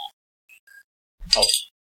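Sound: glasses clinking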